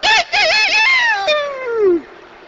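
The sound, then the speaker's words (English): A rooster crows once, loud: a bright, warbling call that stretches into a long, falling tail before cutting off. No one speaks over it. “And we got no more out of it than we got out of a rooster crowing across the yard.”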